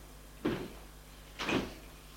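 A house door is opened, with two short, broad bursts of creaking and knocking about a second apart over a low steady hum. No one speaks.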